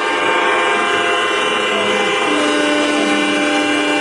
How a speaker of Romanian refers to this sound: Numai șoferii carurilor mortuare și cei ai autobuselor, în care stăteau înghesuiți rudele și prietenii celor morți, au claxonat îndelung.